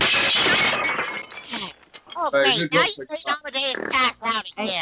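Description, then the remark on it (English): A loud crash of a glass table shattering as someone falls onto it opens the scene, a dense burst of breaking glass for about two seconds, then an animated voice talks over the quiet aftermath. “Where do we get all these fucking glass tables from?”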